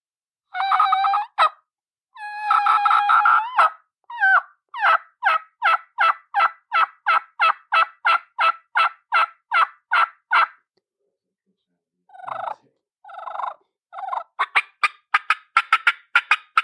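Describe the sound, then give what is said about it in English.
A homemade three-reed turkey mouth call works through a kee-kee run: a few drawn-out whistling yelps, then a fast, even string of sharp high notes, a pause, and another rising series of quick, thin whistles. “And can you kiki on that call?”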